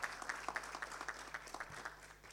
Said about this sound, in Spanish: Felicitamos y pido un fuerte aplauso para la promoción 1983 de la Facultad de Ciencias Médicas de la UNA.